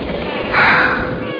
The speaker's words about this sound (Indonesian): Dan Suara bayi ganggu banget ya.